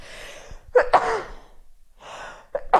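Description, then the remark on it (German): Sharp sneeze after a few breathy, gasping inhales, then another hitching intake of breath and a second sneeze bursting out at the end; no talking. “Ich muss, glaube ich, niesen.”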